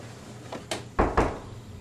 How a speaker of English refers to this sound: The next morning, he cleans out his refrigerator and wipes down the shelves.